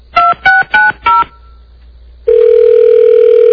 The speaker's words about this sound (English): Now, this is where I would always pick up the phone and say, you know, let me listen. Two rings. It's just the business line, right?